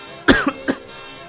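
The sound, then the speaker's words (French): A presenter coughs while introducing a music selection: a sharp, harsh cough followed by a quick second catch and a final rough throat-clearing burst, three short bursts in about half a second, fairly loud with no talking. “Alors là, j'ai pas un chat dans la gorge, mais j'ai toute la SPA.”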